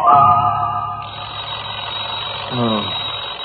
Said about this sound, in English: Alarm clock suddenly goes off.